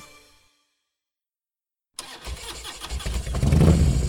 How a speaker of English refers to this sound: Kickstart that engine and roll thunder with the pack.